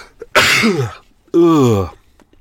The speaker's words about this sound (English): I'm sure, you know, they need the tiny needles, but I'm going to sneeze.